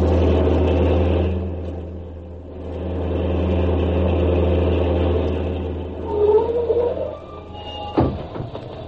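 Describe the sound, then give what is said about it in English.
A vehicle engine runs steadily with a deep, droning rumble and rattly mechanical noise, a brief higher whine rising near the end before a sharp clank. “What's wrong with your engine?”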